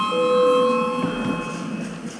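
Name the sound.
parliament voting bell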